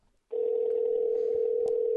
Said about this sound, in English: So here goes the ringtone.